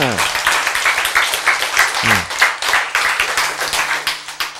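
An audience breaks into sustained applause, a dense crackle of many hands clapping for several seconds, with brief falling vocal sounds near the start and midway.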